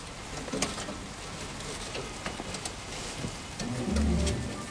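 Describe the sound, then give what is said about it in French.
Rain patters on a zinc roof in murky weather, a steady wash of drops punctuated by sharper, irregular taps, with a soft low rumble swelling briefly near the end and no one speaking. “On entendait des gouttes de pluie sur le zinc.”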